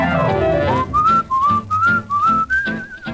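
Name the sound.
human whistling a tune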